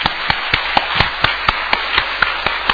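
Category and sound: crowd, warm applause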